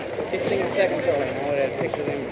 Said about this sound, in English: You hear the police radios in the street on police motorcycles.